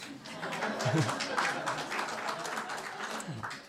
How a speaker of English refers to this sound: I get an applause for my message.